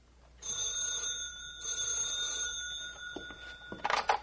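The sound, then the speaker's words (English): A telephone bell rings at a laboratory in Hampstead with a call from a colleague at another laboratory in Beckenham, in one sustained, bright metallic trill for about three seconds, moderately loud, then stops, followed by a short clatter like a receiver being picked up. “A few days later, one of Andrews and Smith's fellow workers at Hampstead got a phone call from a colleague working in another laboratory at Beckenham.”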